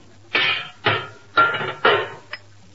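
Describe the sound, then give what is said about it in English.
Four loud metallic clanks ring out at a steady, unhurried pace, each with a short ringing decay, as a hammer strikes a motor to tune it up, followed by a faint final tap. “There can't be but one way to tune up a motor. Hand me that hammer.”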